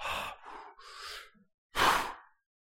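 Someone draws a long, drawn-out breath in several stages, pauses briefly, then lets out one loud, heavy exhale, like a deep sigh. No one speaks.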